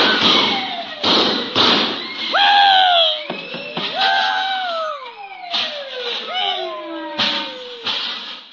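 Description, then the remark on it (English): Irregular loud metallic bangs and clatters of bells, pots and pans from a table being struck, with high squealing tones that slide downward in pitch between the hits. “Bells, pots, pans, everything. Well, I guess as well give them a whirl, too.”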